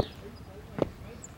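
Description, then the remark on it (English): A single dull footstep thud lands on a stair as someone walks down the stairs, moderately loud, surrounded by a quiet, faintly murmuring background. “Let's walk down the stairs. Try to walk to the sound of my footsteps so that we can stay together.”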